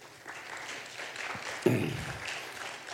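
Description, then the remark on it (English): A church audience applauds itself for meeting a challenge of filling 300 gift shoeboxes, a steady wash of many hands clapping at moderate volume, with a brief louder surge partway through and no voices rising above it. “So I want you all to give yourselves a round of applause for supporting these efforts.”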